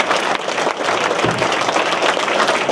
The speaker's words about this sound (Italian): Un grande applauso a Roberto Vannacci.